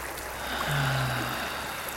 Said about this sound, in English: You're in the forest and hear the water flowing. You're by a creek, by a beautiful river, and your feet are in the river up to the ankles.